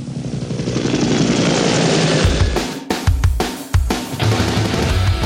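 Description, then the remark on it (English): A helicopter's rotor blades whir steadily, a loud continuous drone with a rhythmic chopping pulse that breaks into sharper beats toward the end. “Today, we get to look at rotary-driven aircraft, helicopters to you and me,”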